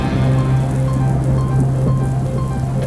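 Steady rain pours onto a hard surface in a dense, continuous patter, loud, with a low constant hum running beneath it and no voices.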